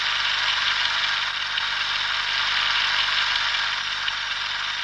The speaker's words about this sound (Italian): io non metterò musica in questa scena, io non metterò musica durante una fucilazione, io alzerò al missaggio il rumore della macchina da presa, questa è la mia musica per il Processo di Verona.